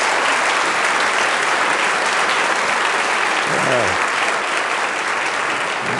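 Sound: audience round of applause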